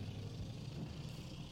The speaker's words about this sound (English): Coal truck.